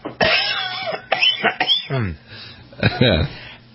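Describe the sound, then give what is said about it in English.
Several harsh, rough coughs and throat-clearing sounds in quick, uneven bursts, fairly loud, with strained vocal noises between them, from a person choking on a peanut product. “Maybe I shouldn't have any peanut products because I know I choke and cough on them.”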